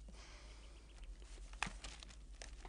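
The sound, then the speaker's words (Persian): Paper sheets rustle and crinkle softly as they are handled, with one sharper crisp rustle partway through, quiet, with no voices. “اینم کاغذ. بازم اگه کم آوردی صدا کن.”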